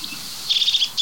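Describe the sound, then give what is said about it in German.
A rapid series of five or six high, thin, buzzy notes in quick rhythm, the call of a crested tit, fairly clear against a soft background hiss, with another note starting at the end. “Das ist die Meise des Kiefernwaldes, würde ich sagen. Das ist eigentlich die Kiefernmeise.”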